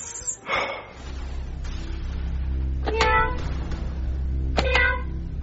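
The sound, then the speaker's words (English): A person imitates a cat with three short, nasal meows spaced a second or two apart, each a sharp rising cry, over a steady low background hum. “Meow. Stop it. We're trying to watch a movie.”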